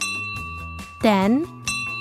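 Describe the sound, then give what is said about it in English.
An office bell, set up to ring each time an order came in on Netflix's launch day, rings with a steady, sustained metallic tone that hangs through the whole moment, while a voice rises briefly over it and soft rhythmic music plays underneath. “The team set up a bell in the office that would go off every time an order came in.”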